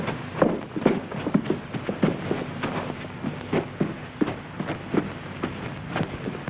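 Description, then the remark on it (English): Footsteps of a landlady and detectives thud up a flight of stairs from a foyer, a steady but slightly uneven series of hard, hollow knocks, more than one person's tread overlapping, with a faint low hum underneath and no talking. “She follows the others in and shuts the door partway as the landlady leads the detectives through the foyer and up the stairs.”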